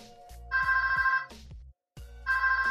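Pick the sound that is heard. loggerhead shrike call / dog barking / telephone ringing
telephone ringing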